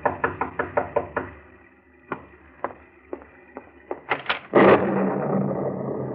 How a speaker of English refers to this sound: It's the night before you're to claim the money, and it's dark and stormy. Another foreboding night like that one 6 months ago. And as you sit by your fireside, you're startled by a knock on the door.